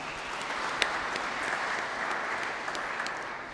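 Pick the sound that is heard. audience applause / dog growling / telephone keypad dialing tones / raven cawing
audience applause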